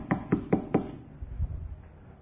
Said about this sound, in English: But what happens? Satan comes along and he knocks on the door.